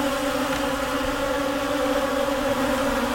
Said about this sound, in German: Ein dröhnendes, schwarmartiges Geräusch folgt diesen einzelnen, leiser werdenden Surren über eure Köpfe hinweg. Es sind nicht eine, nicht zwei, nicht drei, bestimmt 50 von diesen fliegenden Kreaturen, die sich über euren Kopf hinweg bewegen.